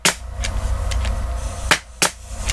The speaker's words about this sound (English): And then they brought in a nail gun for comparison.